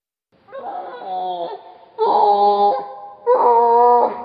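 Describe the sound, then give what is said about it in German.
A tufted capuchin monkey gives three loud, whining calls in a row, each a rich harmonic cry lasting under a second, separated by brief pauses. “This is a vocalization of a tufted capuchin monkey.”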